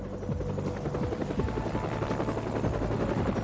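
A helicopter's rotor thumps in a steady, rapid chop beneath a constant engine whine, loud throughout, with no voices.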